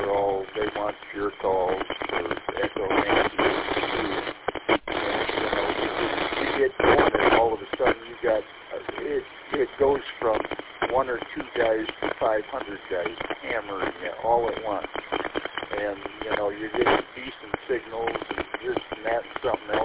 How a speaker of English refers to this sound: A lot of that was static, but I heard bits and pieces.